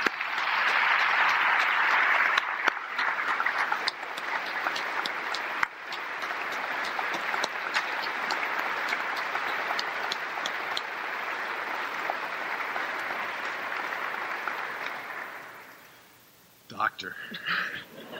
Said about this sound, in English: So I'm going to ask her to come while you clap, and let's put it together.